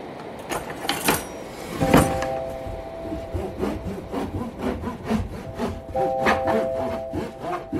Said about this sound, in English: Some of the sounds of me slicing my homemade sourdough, because like so many other people during this pandemic quarantine time, I decided it'd be a good idea to get into sourdough bread baking.